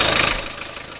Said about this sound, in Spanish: Que ya está el motor listo.